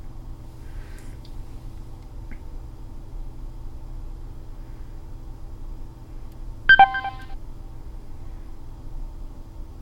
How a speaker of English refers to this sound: Desktop themes say preview group say unknown. Yep, it had a little beep. It's probably visual stuff on the screen, but I don't really see it.